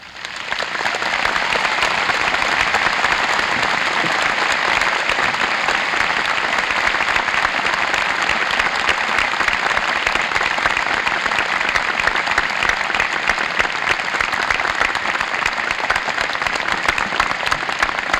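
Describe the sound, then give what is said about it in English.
A large audience at an MSU graduation ceremony claps steadily. A dense, sustained roar of applause holds at an even level throughout, with no voices standing out. “Thank you very much for your applause and for the honors you have always done to me.”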